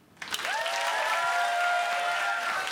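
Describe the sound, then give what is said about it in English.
An audience bursts into steady, loud applause that holds for a couple of seconds, with a sustained whoop or cheer ringing out over the clapping; audience members without children answering a question by applause. “By round of applause, who here doesn't have children?”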